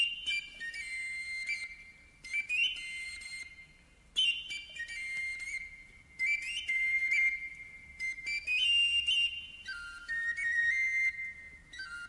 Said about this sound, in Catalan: Va passar la porta, va sortir al carrer, va aturar-se una estona, va posar-se la flauta als llavis i va començar una tonada misteriosa.